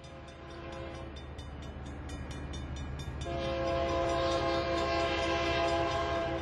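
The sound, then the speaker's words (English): A train passes on the tracks that divide the town of Broken Bow, its horn blaring in sustained, loud blasts that swell and grow stronger partway through over a steady low roar of rolling cars. “Two blocks away, train tracks divide Broken Bow.”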